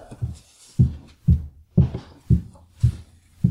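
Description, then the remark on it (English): A woman's high heels climbing a staircase in a home: a steady series of about seven knocking steps, roughly two per second, each a firm thud with a sharper click on top, and no voices. “That's my wife's high heels going up our staircase.”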